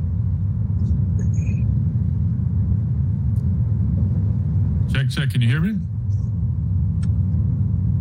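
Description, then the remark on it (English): Steady low engine rumble of a car driving, heard over a live call with the man driving it, fills the whole recording, with his breathing, a brief spoken phrase cutting in near the middle and a few faint higher ticks. “I definitely hear him breathing and driving.”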